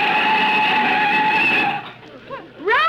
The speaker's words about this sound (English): Don't look at me. Mr. Benny stepped on the brakes. From the back seat yet.